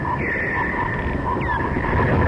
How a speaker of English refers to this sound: That's the radar call of a creature called the giant noctule bat, hairy and brown, with a wingspan slightly bigger than a blue jay and a huge mouth full of scary-looking teeth.